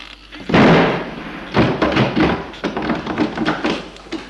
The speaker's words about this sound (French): La porte qui s'est fermée d'un coup est à clé.